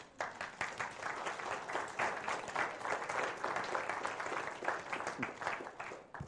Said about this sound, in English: So if you're one of those people, could I ask you to come and join me just for a moment? You can clap. We can welcome them.